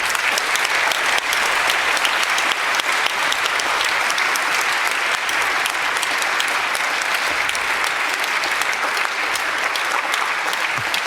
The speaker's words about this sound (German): Ich darf mit der Dankesrunde anfangen, zuerst mit den Sponsoren. Ein Applaus für die Sponsorenfirmen, bitte.